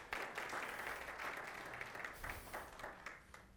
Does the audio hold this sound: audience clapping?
yes